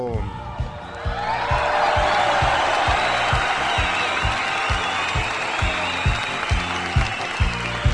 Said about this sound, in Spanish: A todos ellos, público conocedor, fuerte el aplauso.